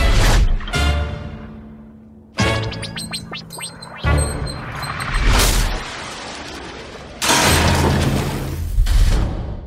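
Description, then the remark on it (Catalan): Fireworks explode in a series of about five loud booming blasts at irregular intervals, each followed by a crackling, fizzing decay, with no talking. “Declaro inaugurats els focs artificials!”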